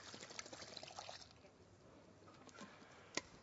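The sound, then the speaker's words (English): Premixed ingredients are poured into the pot of a cooking machine, a steady wet glugging and pattering lasting a few seconds, ending with a sharp clink near the end. “Now, I've just, to save time, just mixed it all together, but you don't have to. You can just pour it in.”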